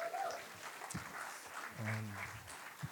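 An audience applauds, with a steady wash of clapping filling all three seconds at a moderate level, and a short voice sounds briefly through it partway along.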